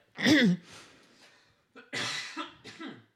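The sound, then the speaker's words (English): Two loud bursts of coughing separated by a short pause, the first a single harsh hack and the second a rougher, drawn-out fit with a couple of follow-up coughs. “See, when I start coughing, that's your cue to start talking.”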